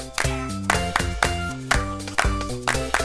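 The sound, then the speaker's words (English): Steady, evenly spaced hand claps, about two per second, ring out over a bright tonal musical backing, each clap a sharp burst, one clap for each number counted up to ten. “Let's clap for all 10 numbers.”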